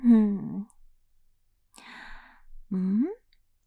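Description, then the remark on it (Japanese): A drawn-out yawn from the speaker's older sister: a groaning voiced stretch, then a breathy airy exhale, and a final rising vocal moan as it trails off, with no talking. “あれ、あくびした？眠くなってきちゃったの？”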